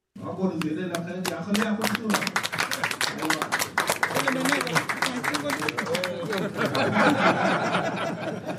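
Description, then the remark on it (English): Representatives of the Dinka Bor and Murle communities clap steadily and cheer at a signing ceremony in Juba after their leaders sign a cessation of hostilities agreement and shake hands, with scattered voices, whoops and laughter mixed into the sustained applause, loud throughout. “Representatives from Dinka Bor and Murle communities club and cheer after their leaders sign a cessation of hostility agreement and shake hands.”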